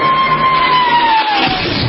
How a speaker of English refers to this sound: Okay, 25,000 cheering extras.